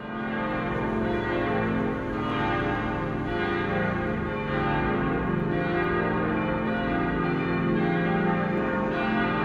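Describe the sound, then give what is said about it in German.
A full peal of bronze church bells, cast 50 years ago in Gescher, Westphalia, rings continuously at a basilica, rich overlapping tones sustaining loudly and steadily throughout with no voices present. “Vor genau 50 Jahren wurden die mächtigen bronzenen Klangkörper im westfälischen Gescher gegossen.”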